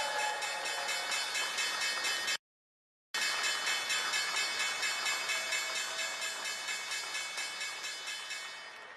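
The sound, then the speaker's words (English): A stock exchange opening bell on a Tuesday: a loud electric bell rings continuously with rapid, even strikes and a bright metallic tone. It stops for a brief moment early on, then resumes and gradually softens toward the end. No one speaks. “And this doesn't make it any easier as we look to this opening bell on this Tuesday.”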